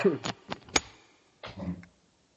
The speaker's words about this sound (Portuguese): Pode dar uma pausinha? Vamos, que eu preciso tossir. Peraí, um minutinho.